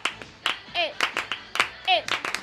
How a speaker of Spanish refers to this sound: A ver, ¿puedes aplaudir? Venga.